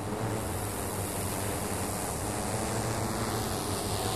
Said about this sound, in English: And we have multiple drones stacked up on different airspace segments, flying on top of each other in their own designated airspace.